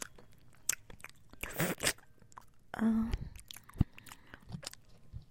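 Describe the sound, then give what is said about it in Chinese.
Wet biting and chewing of a soft jelly, with squelchy mouth sounds and a few sharper crunchy clicks spread over several seconds, no talking; one jelly is being shared by two people, bite by bite. “我先咬一口”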